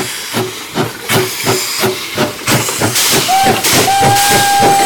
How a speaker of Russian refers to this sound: Самый настоящий паровоз 1897 года рождения, который по узкоколейной железной дороге несет нас туда, где настоятельно рекомендовал нам побывать Сати Казанова.